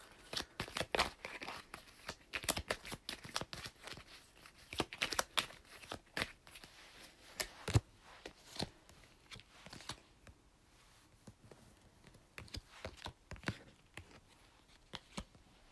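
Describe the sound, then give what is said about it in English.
Playing cards being shuffled for a card reading, a long run of crisp, papery riffles and flicks in uneven bursts, with brief pauses between, fairly quiet and with no talking. “So we're shuffling the cards, you can make a wish.”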